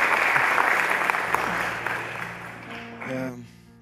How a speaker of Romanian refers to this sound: Puteți să-l aplaudați, că am văzut că vă aplaudați